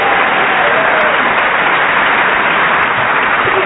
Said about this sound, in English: We have Colin Sell at the piano. Tim, we'll start with you. Yeah, a round of applause for Colin.